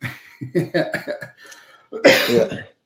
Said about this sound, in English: Sorry, I've got a cough here.